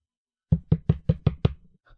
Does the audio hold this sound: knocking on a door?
yes